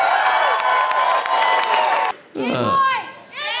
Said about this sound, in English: All right, let's get a round of applause as we go into our break.